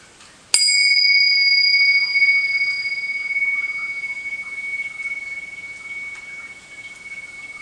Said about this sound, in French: Je vais vous inviter à juste partager un moment de présence, de conscience ensemble, au son de cette cloche, avant de commencer vraiment.